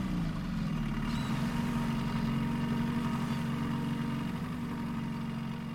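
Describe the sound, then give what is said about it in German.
The outboard motor of a refugee boat heading for the island of Chios, steered by a young man, drones steadily and loudly, a constant low mechanical hum with a buzzing tone that holds without pause throughout, with no voices. “Wer steuert den Motor?”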